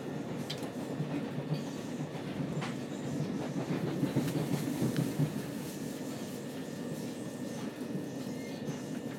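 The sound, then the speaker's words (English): Steady low rumble from inside a moving train carriage, with faint rhythmic clicking of wheels over rail joints and occasional light rattles, continuous throughout. “It's like a purring. It's going. Listen. It goes up and down like Chinky's purring.”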